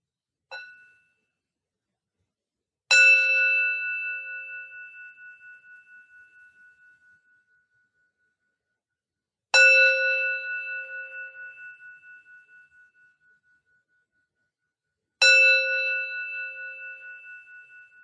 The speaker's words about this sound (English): Now we'll have a closing bell.